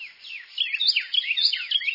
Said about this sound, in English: Many small birds, like the Carolina wren we're hearing, breed twice in a season, and some of them lay 5 eggs or more in a clutch.